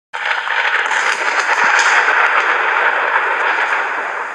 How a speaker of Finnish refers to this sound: Tuo ukkonen oli merkki ylijumala Zeukselta.